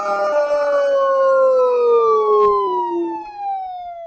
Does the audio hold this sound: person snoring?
no